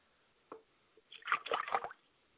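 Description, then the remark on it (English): Liquid is poured out onto a surface as a libation to a mother's spirit: one brief splash, a pause, then under a second of irregular, spattering splashes and plops before it stops. No voices accompany it. “I pour libation to my mother's spirit, the woman in yellow, Yamin Ye, O Yamin Ye.”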